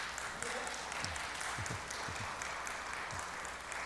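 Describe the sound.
A crowd applauds steadily throughout, a dense wash of many hands clapping at once, with a few voices calling out underneath.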